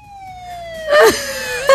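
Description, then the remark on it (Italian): Ambulance and police car sirens blare together, a long wailing tone sliding slowly downward while two sharp, loud warbling yelps burst over it. No one speaks. “Salve Enrico Fedele, sta arrivando l'ambulanza. Ambulanza o polizia? Tutte e due.”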